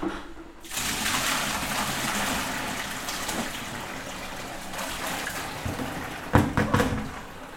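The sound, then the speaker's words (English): Old water that paper-pulp scraps were sitting in pours and trickles out steadily in a continuous rush, with a few splashy gurgles near the end as the flow shifts. “Just draining out this kind of old water that these scraps were sitting in.”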